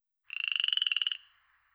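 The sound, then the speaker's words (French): A frog croaks once in a rapid, buzzy trill of about twenty quick pulses, fairly high-pitched and steady, lasting under a second before trailing off into a faint fade. “Les mammifères, les oiseaux, les poissons, les reptiles, les amphibiens.”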